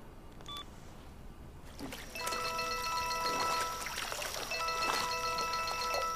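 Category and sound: household object, telephone ringing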